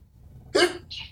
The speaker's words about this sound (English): for everyone that heard … sneeze, two sets of things. One, … sneezes like a child.